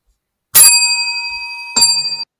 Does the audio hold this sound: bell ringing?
yes